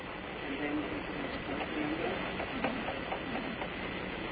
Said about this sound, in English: The sound of a keyboard being tapped.